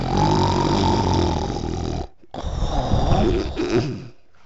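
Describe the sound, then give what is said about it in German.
A voice imitates the loud, rasping snoring of a wolf lying in bed: two long, growly snores separated by a brief pause, with no talking. “Der Wolf verschlingt Rotkäppchen, legt sich wieder ins Bett und fängt an zu schnarchen.”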